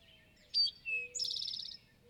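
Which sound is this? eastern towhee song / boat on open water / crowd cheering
eastern towhee song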